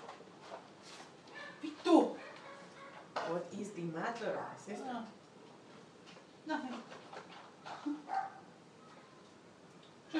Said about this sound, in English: Nothing. Just dog.